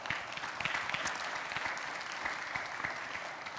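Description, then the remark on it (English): A church audience applauding steadily, dense overlapping claps forming a continuous wash of sound that holds at an even level from start to finish, with no voices standing out; they applaud themselves for fully paying for two church construction projects. “So please, give yourself a round of applause for that.”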